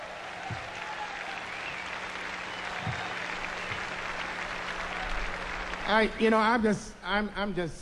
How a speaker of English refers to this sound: Give a big round of applause to this band, huh?